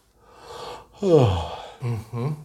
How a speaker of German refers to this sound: Oder ich tue irgendwas Unerwartetes, ich gähne.